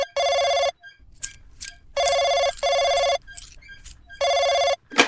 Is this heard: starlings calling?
no